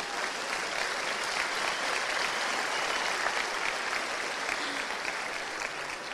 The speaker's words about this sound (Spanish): Vamos a darle un fuerte aplauso porque mira, lo hicieron.